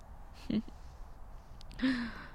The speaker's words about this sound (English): Hear that little gasp.